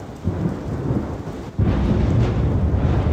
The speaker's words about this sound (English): Storms rolled through southern Wisconsin again last night, and man, that thunder was loud.